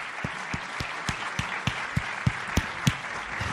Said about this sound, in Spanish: me gustaría que, por favor, el alcalde de León, José Antonio Díez, subiera al escenario y ocupara pues otra butaca y que compartiera con nosotros estos minutos. Un fuerte aplauso para el alcalde de León. Un aplauso para el alcalde.